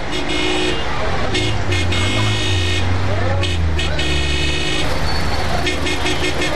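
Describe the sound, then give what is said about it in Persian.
Busy street traffic rumbles steadily while car horns honk repeatedly in short and sustained bursts, some overlapping, with indistinct voices faintly in the background, as someone hails a taxi. “تکسی این طرف گوشکو، این طرف.”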